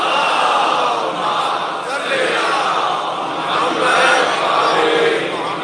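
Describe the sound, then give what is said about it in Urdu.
A large crowd recites salawat together in unison, a loud, sustained chorus of many voices chanting in a steady, rolling rhythm for several seconds. “ایک صلوات پڑھ لیں تو میں ایک حدیث سناؤں.”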